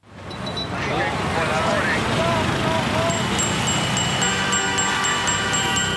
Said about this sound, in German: Es hupt, quietscht, dröhnt und knattert